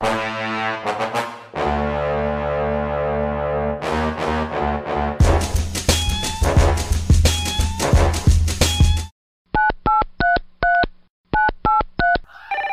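Telephone keypad tones beep out a quick run of short, clear dual-pitched presses, about eight in two bursts with a brief pause between, following a dense stretch of louder, musical sound.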